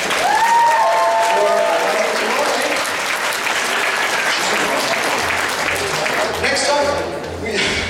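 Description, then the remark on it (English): A large audience claps loudly and steadily for several seconds, with a few whoops and cheers rising over the applause near the start and again toward the end. “Once again, big round of applause.”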